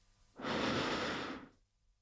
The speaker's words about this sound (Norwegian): Jeg pustet dypt inn.